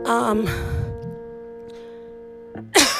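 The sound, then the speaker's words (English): A sharp, loud cough bursts right up against the microphone near the end, following a steady, humming electronic tone that lingers quietly for a couple of seconds. “Oh my god, that was right at the microphone. Yeah, see, at least I'm going into the corner of shame when I have to cough.”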